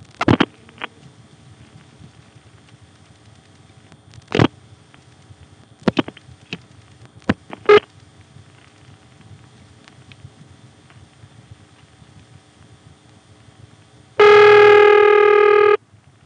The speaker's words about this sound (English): And here's a call to a ringing number in Montrose. The earpiece is cutting out constantly thanks to the dial.